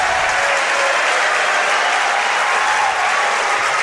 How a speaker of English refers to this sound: This is a huge atmosphere. How about our fans cheer a little bit more?